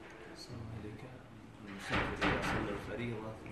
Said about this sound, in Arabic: سكر الباب الله عليه إنك أزعجنا.